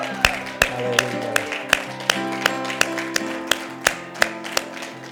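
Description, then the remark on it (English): A crowd claps hands together in worship at the end of a service, in a steady, rhythmic beat, about a dozen sharp claps in unison over sustained music playing underneath. “Would you just worship one more time with a hand clap as we end today?”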